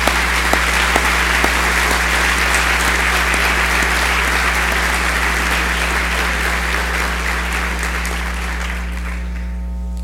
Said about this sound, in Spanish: Hoy que estamos unidos todos aquí en este cuarto, nos merecemos un aplauso y pido que nos lo demos.